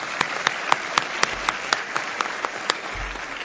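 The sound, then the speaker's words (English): Audience applause at HCA's fourth annual graduation ceremony for the class of 2018: a steady wash of clapping hands with sharp, evenly spaced claps standing out about four times a second, holding at a moderate level throughout, with no voices. “Can I get a round of applause for everybody else?”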